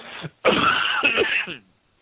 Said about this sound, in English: It sounds like everybody's got the cough. My little girl's been coughing all night.